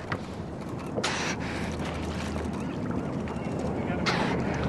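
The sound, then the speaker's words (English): Two sharp, breathy exhalation puffs from a porpoise cow-calf pair surfacing in a bay 5 or 6 feet from a boat, spaced a few seconds apart, over a steady low rumble of boat and water noise. “Here's a cow-calf pair close to the boat, and we'll hear this pop.”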